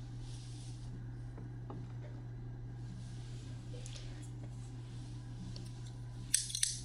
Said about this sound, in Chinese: 剪刀放在火炉上烤一下，先生，我们要开始了。